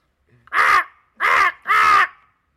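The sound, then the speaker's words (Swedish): A person imitates a crow, giving three loud, harsh caws in quick succession, each rough and nasal, with short gaps between them and no other talk. “För övrigt kan jag låta som en kråka.”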